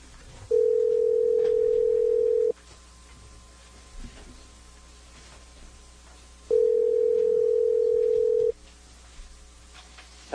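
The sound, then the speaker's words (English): A telephone line tone while a radio show places a call to an on-air guest: two steady, loud two-second beeps separated by a long pause, over faint background hiss, with no voices. “He's got a whole bunch of things that he picked out that he wants to spotlight, so we'll give him the next couple minutes as Brian gets him on the phone.”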